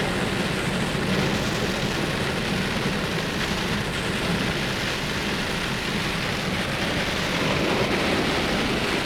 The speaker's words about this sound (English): Sound of the wind and the sound of the rain.